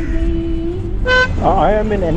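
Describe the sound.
A single short, bright car horn honk cuts through a steady low engine and traffic rumble during a taxi ride along the sea, and a person starts talking right after it.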